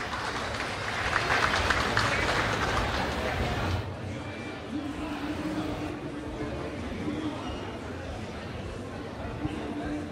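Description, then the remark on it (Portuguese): A loud burst of audience applause for a competing song composition at a music competition fills the first few seconds, a dense wash of clapping, then drops away abruptly into quieter crowd murmur and talking with a faint steady hum. “Salva de palmas.”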